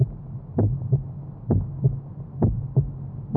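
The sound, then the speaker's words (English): A steady heartbeat thumps in paired lub-dub beats, about four cycles at a calm, even pace, low and muffled over a soft constant hum, with no voices present. “sound of a heartbeat.”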